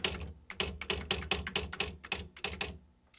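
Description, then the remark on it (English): A mechanical typewriter clatters, with about a dozen sharp key strikes in a quick, slightly uneven rhythm before they stop. No voices are present. “A comparison of type styles revealed that the first letter had indeed been written on a typewriter”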